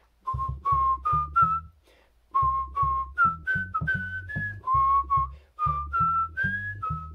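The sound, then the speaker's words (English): A deep, buzzy bass whistle, heard through the Firefox browser, plays a string of short, rhythmic notes in three phrases separated by brief pauses, loud with no talking. “So here's the bass whistle in Firefox.”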